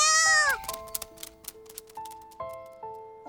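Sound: cat meowing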